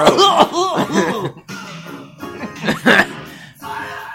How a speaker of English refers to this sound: The guy coughed during the middle of the recording.